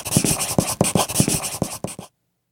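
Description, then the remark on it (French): A pencil scratches quickly across paper in short, rhythmic strokes, fairly loud, for about two seconds before stopping abruptly into silence. “Et oui, c'est la prise de notes, le moment, chers auditeurs, où vous devez prendre un crayon et un papier et noter ce que l'on vous raconte”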